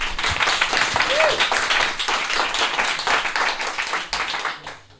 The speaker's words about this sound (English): With these wonderful performers who will be doing a bit of text for you now. Round of applause, please, for them.